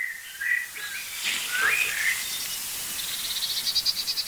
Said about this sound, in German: Da hört ihr schimpfende Meisen.